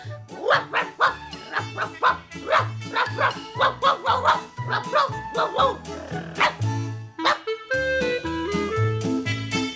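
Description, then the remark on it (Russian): A puppy barks and yips excitedly while running around a yard, in a rapid, nonstop string of short, high-pitched bursts, fairly loud, with low musical notes playing underneath throughout. “стал как заведенный носиться по двору, напевая свою бесконечную щенячью песенку.”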